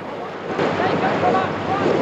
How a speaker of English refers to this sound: The band are sitting on the back of a boat as it cruises through the water.